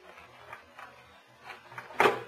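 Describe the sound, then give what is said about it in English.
Faint metallic scraping and clicking as someone works at a door lock, in short irregular bursts, ending in one sharp, louder clunk as the lock gives way. No one speaks. “Now, both of you boys keep quiet while I work on this door.”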